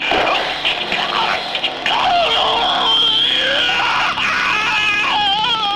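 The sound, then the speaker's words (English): A man screams loudly as he is hit by a taser drone, a strained, wavering howl that rises and falls in pitch and carries on almost without a break for about six seconds. “That was a good scream.”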